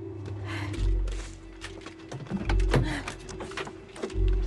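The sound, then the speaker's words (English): Someone shifts and climbs out of a car, with rustling movement and a few heavy low thumps, ending in a solid door shutting over a steady low hum. “She shifts her gaze, then gets out of the car.”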